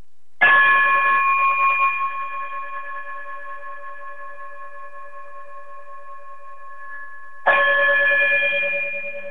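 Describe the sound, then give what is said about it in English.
A bright chime is struck twice, the first tone ringing out with a long, slowly fading sustain before the second strike arrives near the end. Clear, with no voices. “if you would, chime us out of here.”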